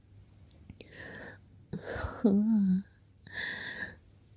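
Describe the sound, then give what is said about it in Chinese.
Heavy, breathy exhales come in a few fairly loud bursts, with a short low voiced groan in the middle. The breaths are airy and uneven, like someone panting. “你喘气喘得好重啊！”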